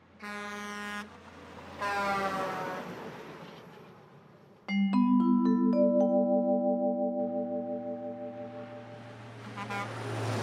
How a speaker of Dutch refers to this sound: En daar komt een auto aan. Toet, toet, toetert de bestuurder terwijl hij remt. Toet, toet, toet.